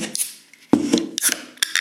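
A beer bottle being opened: a series of sharp metallic clicks and clinks, with one louder snap partway through, followed by brief scraping and rattling, with no voices.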